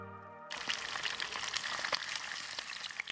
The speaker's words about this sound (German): Hier brutzelt eine Pfanne mit einem Fleischgericht.